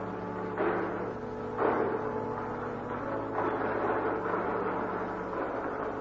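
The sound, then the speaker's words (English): The large main entrance doors of a church open with a few muffled, rumbling thuds and scraping swells, spaced a second or two apart, over a steady low background hum. No one speaks. “the doors at the main entrance to the church opened.”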